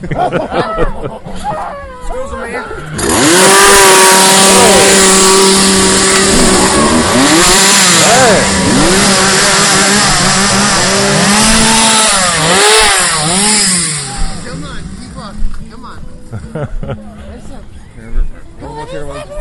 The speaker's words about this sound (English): A chainsaw massacre can depend on a good chainsaw these days.